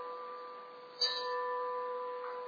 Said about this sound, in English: Sounds the clock.